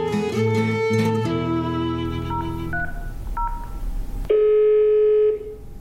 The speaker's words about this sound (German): Ich fing also an zu telefonieren.